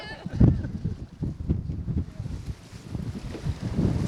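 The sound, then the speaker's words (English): Gusty wind rumbles against the microphone over open water, heard from a boat, with irregular low buffeting bursts and a steady wash of small waves lapping. “You can see it's quite windy. We got some waves.”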